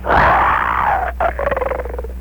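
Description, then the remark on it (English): A voice actor imitates the growl of Carmichael, a bear character: a loud, throaty roar that slides downward in pitch, breaks briefly, then ends in a rapid rattling, pulsing rumble lasting about two seconds. “Do you think you can do the growl of Carmichael, the bear?"”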